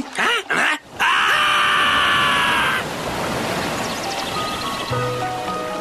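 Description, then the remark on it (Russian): A loud surge of rushing water bursts in after a second of short whooshing swoops as a stream floods down its dry bed, then keeps pouring as a steady, foaming roar to the end. “Неизвестно, что ответил бы Пупсень, потому что в эту секунду ручей догнал их и...”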